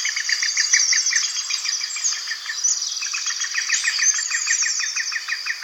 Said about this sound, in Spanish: De tronco a tronco relincha un pito real, un grito amarillo, verde y rojo.